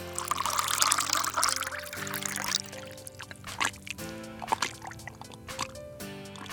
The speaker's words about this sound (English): Second, pour some hot water into the bowl and stir.